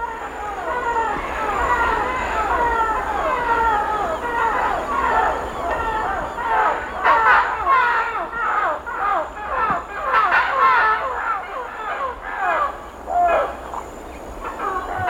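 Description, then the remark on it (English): A flock of parrots squawks overhead in the Amazon rainforest one early morning, harsh overlapping calls pouring out continuously and swelling louder toward the middle, with a steady high insect drone beneath them. “At this particular point in the tape, Tropical Jungle, you hear a group of parrots flying overhead.”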